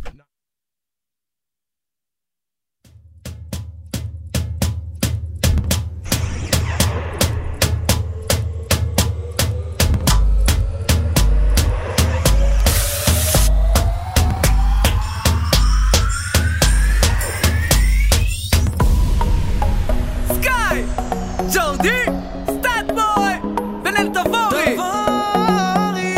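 After a few seconds of silence, a pop song intro starts with a steady thumping beat and heavy bass, a long rising synth sweep building up before fuller melodic parts kick in.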